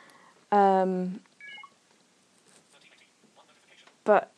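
Another iPhone's electronic alert sounds in the background: a loud buzzy harmonic tone lasting about half a second, a couple of brief high beeps, then after a quiet pause one more short, loud burst.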